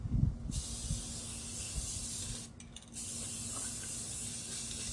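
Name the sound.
spray can spraying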